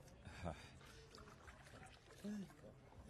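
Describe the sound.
Water pours from a pitcher in a soft, steady splash lasting a few seconds, fairly quiet, with faint murmuring voices and background noise underneath.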